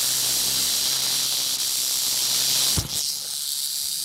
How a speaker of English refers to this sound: I nudge the microphone to within a few inches of the vibrating diamondback. Finally, the snake's had enough, and quicker than you can blink, he strikes the padded microphone.